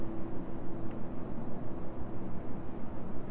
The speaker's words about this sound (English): What do you hear? Airplane. Airplane, that's right. That's right. It is an airplane.